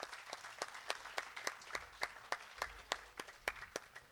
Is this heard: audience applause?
yes